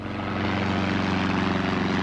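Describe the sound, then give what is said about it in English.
A propeller plane drones steadily overhead as it flies through mist over the countryside between Hatfield and Welwyn, just outside London, coming in to land. Its engine is a loud, continuous hum with a pulsing low rumble, holding constant throughout with no voices. “A plane flying through the mist which shrouded the countryside between Hatfield and Welwyn, just outside London, and coming into land.”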